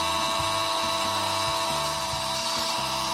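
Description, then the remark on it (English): The final siren at Glen Huntley Oval ends a Saturday afternoon football game, sounding as a loud, sustained buzzing tone that holds steady throughout, wrapped in dense, harsh noise with a low rumbling pulse underneath. “And there's the final siren.”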